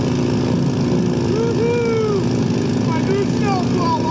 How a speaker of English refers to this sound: The snowblowers are out in the Northeast.